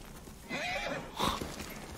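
horse neighing

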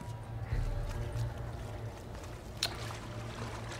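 water trickling

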